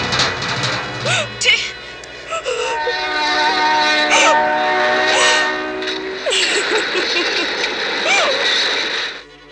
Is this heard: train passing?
yes